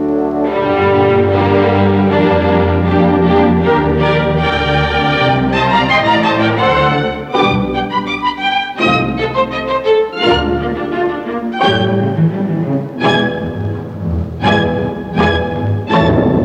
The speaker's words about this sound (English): Now for the scraping instruments. These are played with a bow or plucked with the fingers and are called the strings.